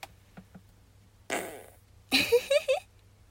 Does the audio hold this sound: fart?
yes